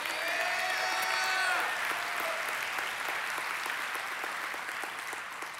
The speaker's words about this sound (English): I know you're applauding her endurance, and she does too.